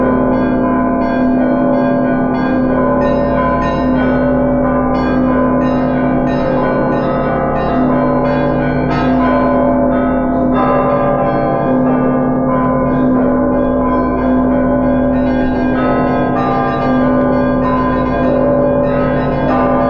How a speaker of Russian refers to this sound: Самый последний звон, который вот звонили до 20-го, то есть вот до революции, это был красный звон, который уже, во-первых, изменился темп.